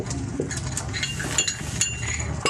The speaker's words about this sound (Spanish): Irene se acerca con las tazas y platos para el desayuno.